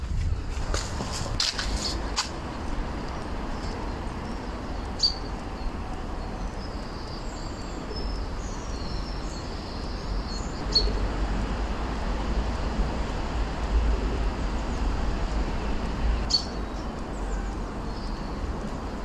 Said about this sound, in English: I live in a urban environment, so you hear the sound of cars in the background, but you also hear the birds in the trees in the gardens around us. And at the end, I flick a stick in the pond, so you hear that too.